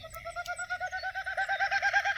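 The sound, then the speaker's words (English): A snipe calls from a wet meadow in Boulder County in the evening, a steady, rapid run of repeated mid-pitched notes, about eight per second, growing slightly louder over two seconds, with no voices present. “So you're hearing that snipe, though, sniping away.”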